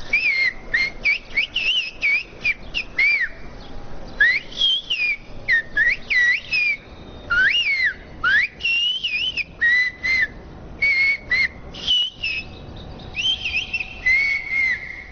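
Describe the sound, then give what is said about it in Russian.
A single whistler renders a poem in a whistled language, heard at an exhibition in the Anasis center: rapid, gliding, speech-like phrases rising and falling in pitch with brief pauses between bursts, continuing steadily with no talking. “Вот образец языка свиста, который можно услышать в центре Анасиса на выставке «Боги и смертные Олимпа»”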